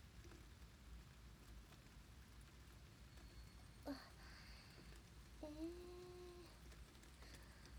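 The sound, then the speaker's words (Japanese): Steady rain falls in a constant soft hiss throughout, with a couple of brief higher tonal sounds rising out of the downpour partway through. “朝は雨の予報じゃなかったのに。”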